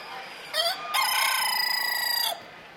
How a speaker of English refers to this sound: I have here a cockbird. That means he's more than a year old. He's a Dorking breed, and he's a silver-gray variety. That's the color pattern. He's a very gentle bird.